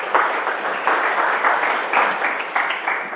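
A crowd claps steadily for a few seconds, a dense, even patter of many hands with no voices over it, applauding a person who has just given a Bible reading.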